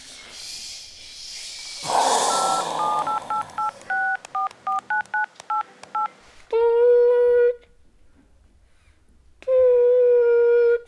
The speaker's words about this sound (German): Frau Berg tippt die Telefonnummer ein.